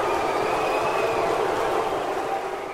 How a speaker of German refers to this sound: So klingt das Publikum der Richard-Wagner-Festspiele, wenn es nicht zufrieden ist. Pfiffe und Buhrufe, die gab es auch gestern wieder im Bayreuther Festspielhaus nach der Premiere des vierten und letzten Teils des neuen Ring des Nibelungen.